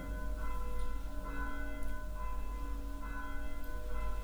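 Church bells ring steadily with rich, overlapping tones, strikes recurring roughly every second and a half over a low constant rumble, with no voices.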